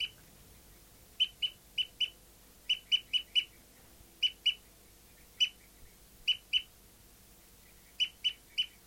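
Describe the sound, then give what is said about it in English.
A bird, numbered 59, gives a tooping call still going after 30 seconds: short, bright, clipped notes repeated in quick bursts of two to four, with brief pauses between groups, clear over a faint low background hum. “Start recording bird 59 is still tooping after 30 seconds.”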